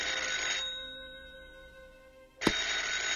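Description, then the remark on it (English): An old-style telephone bell rings in a bright, rattling burst, stops briefly, then starts ringing again with a sharp click, loud with no talking. “Charlie puts the book down and walks past Linus to the phone.”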